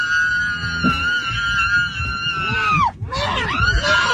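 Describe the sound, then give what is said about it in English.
A person screams in a long, sustained high-pitched wail that swoops down sharply near the end while being dragged off a flight, then breaks into shorter strained cries amid loud background commotion. “No, that is actually a person being dragged off a flight.”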